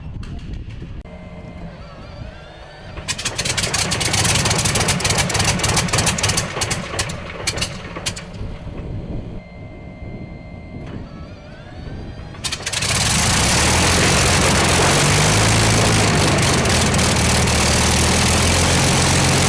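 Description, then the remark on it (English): A vintage airplane engine, overhauled and not run since 1963, cranks with irregular popping and sputtering, then catches and roars into a loud, steady running drone. No voices are heard. “The engines that were overhauled were the ones that were sitting in the airplane when it was mothballed by Spartan.”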